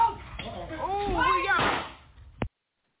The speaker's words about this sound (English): And that was a gunshot. Yeah, it's crazy. That was the young man at the end shooting him in the back because he hit her the first time, mm-hmm.